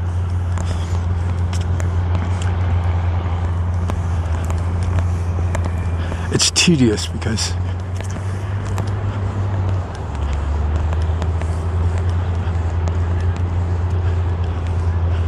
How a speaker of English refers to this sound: you can hear the heavy equipment. I'm not exactly sure what the heck they're doing over there, but they're making a lot of noise.